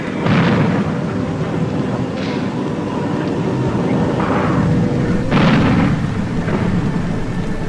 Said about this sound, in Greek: Πολύ σύντομα θα το διαπίστωναν όλοι όταν τις ψαλμωδίες που αναμετέδιδαν τα ανοιχτά ραδιόφωνα θα σκέπαζαν οι εφιαλτικοί ήχοι των εκρήξεων από τις βόμβες που έπεφταν από τον ουρανό.